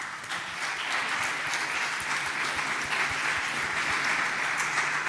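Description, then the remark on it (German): An audience at an event applauds itself steadily, a dense wash of many hands clapping at an even level throughout, with scattered sharper claps standing out. No one speaks over it. “Aber das Wichtigste, und dafür will ich einen Applaus hören, ist das Publikum.”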